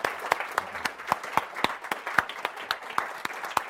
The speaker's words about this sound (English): How about a big deep breath and an applause